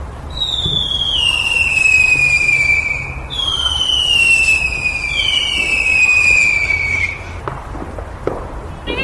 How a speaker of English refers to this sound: fireworks begin.